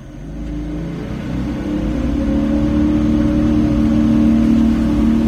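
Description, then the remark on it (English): A patrol boat engine roars steadily as local game wardens speed along on patrol of hunting areas, its low droning hum swelling louder over the first couple of seconds and then holding strong, with no voices. “Speeding along in patrol boats gives this scene the feel of a rustic Miami Vice”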